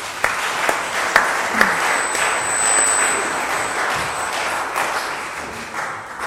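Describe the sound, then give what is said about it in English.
An audience bursts into a sustained round of applause, a dense wash of many hands clapping that holds steady for several seconds, with a few sharper claps standing out near the start. “Will you give them a round of applause?”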